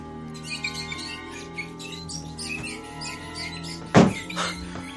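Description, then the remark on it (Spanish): High, chittering squeaks repeat in quick bursts over a steady low hum, with a sudden loud thump and scuffle near the end, like rats squealing and scurrying about. “Le digo que son las ratas.”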